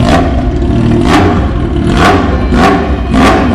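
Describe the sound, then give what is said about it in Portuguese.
A loud motorcycle engine revs hard in repeated surges, about five bursts in quick rhythm over a constant heavy rumble, with no voices. “Instituto Giro Produções e Eventos apresenta Gincana de Motos.”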